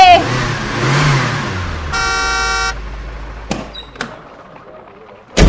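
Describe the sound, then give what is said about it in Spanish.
A cookie delivery truck rumbles up with a low engine drone, sounds one sustained blast of its horn, then a couple of sharp clunks follow as it idles. “Llegó el carro de la galletita.”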